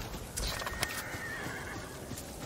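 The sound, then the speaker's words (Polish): A horse whinnies with a drawn-out, wavering high cry, preceded by a few sharp hoof clops on hard ground, all clear, with no one speaking. “Gdzie jesteś, koniku?”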